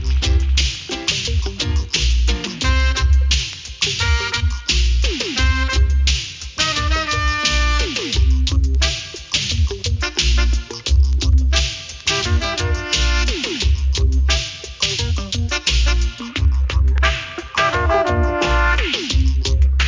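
A music track plays loudly and steadily throughout, with a deep, heavy bassline, a regular rhythmic pulse and bright melodic layers on top; no one speaks over it.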